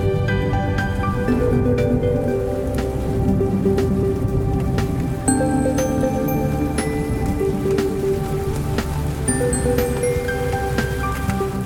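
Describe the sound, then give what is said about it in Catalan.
Steady rain patters on a hard surface, with distinct individual drops tapping through a dense, continuous wash. It sounds fairly loud, with no voices present. “I pel que fa a la previsió meteorològica, hem de dir que la pluja serà la protagonista d'estos dies, tot i que, com dèiem ahir, ara farà quatre gotes, pararà, tornarà a ploure, anirà sense ser un continu al llarg del dia.”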